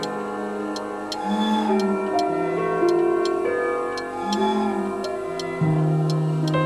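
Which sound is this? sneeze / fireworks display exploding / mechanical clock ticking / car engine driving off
mechanical clock ticking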